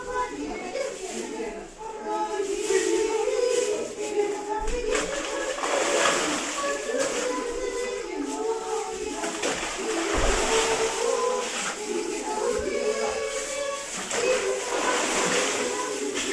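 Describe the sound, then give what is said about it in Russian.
Men splash loudly as they plunge into the waters called the Jordan during an Epiphany (Baptism) feast, amid a lively outdoor crowd, with several sharp splashes breaking through the steady murmur of voices and cheering. “Самые смелые мужчины у нас начинают погружение в воды Иордана.”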